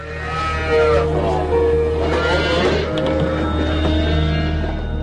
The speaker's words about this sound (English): Horrific scenes like this of cows too sick to walk going into slaughter led to an unprecedented USDA ban on so-called downer cattle earlier this year.